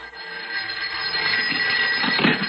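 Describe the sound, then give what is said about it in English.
A telephone rings steadily on a Saturday night with a harsh, buzzing metallic tone that holds continuously and fairly loud, with no voices over it. “Well, now, who would be calling at this time on a Saturday night?”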